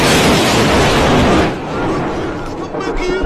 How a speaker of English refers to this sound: Okay, here comes the lightning strike.